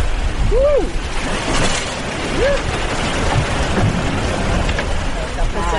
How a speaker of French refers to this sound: Là, on a une vague au moins 6 mètres qui est en train de nous arriver dessus.